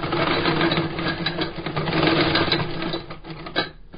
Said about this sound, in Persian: با این ماشین چرم کفش ها را می دوزد.